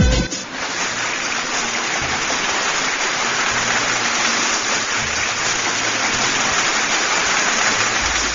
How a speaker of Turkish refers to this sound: Sana kocaman bir alkış gönderiyorum.